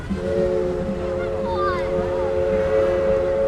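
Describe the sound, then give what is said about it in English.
A paddle-wheel riverboat churns past in front of a dock and disappears behind an island, its steady low rumble carrying a sustained droning hum, with faint chirps and outdoor ambience layered over it. “Still see the top of the boat. Paddle wheel is just about to disappear behind the dock there, and it's gone now.”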